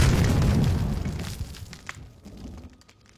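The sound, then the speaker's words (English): A landmine explosion set off by a tripwire on sand: one loud, deep blast with a heavy low rumble that fades over a couple of seconds, leaving scattered crackles and debris sounds. No voices. “Then a second one goes off, and I topple over, sprawled on the sand like a day tripper taken ill.”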